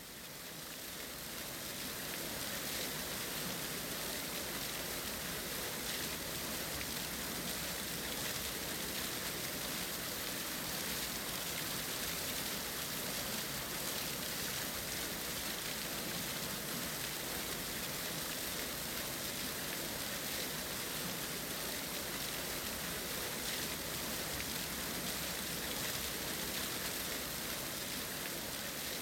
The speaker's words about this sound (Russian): В окнах зажглись огни, поднялся ветер, пошел дождь, наступила сырая холодная ночь.